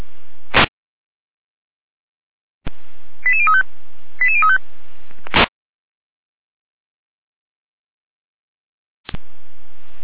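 Two quick bursts of stepped electronic alerting tones over a fire brigade dispatch radio channel, framed by short crackles of squelch static and separated by near silence; no one speaks.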